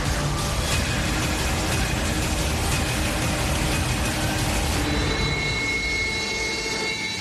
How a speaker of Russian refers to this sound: Аэродром в зоне специальной военной операции. Рев реактивных двигателей не затихает ни на секунду. В небо один за другим взмывают истребители Су-30СМ и Су-35С.